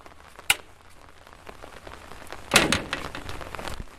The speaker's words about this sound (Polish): Pada. Pada.